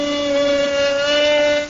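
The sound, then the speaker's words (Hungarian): A cabinet door creaks open in one long, loud, drawn-out squeal, its pitch holding nearly steady with a slight waver, and no voices over it. “Figyelj, mutatom, hogy ez a szekrény hang, ennek milyen hangja van.”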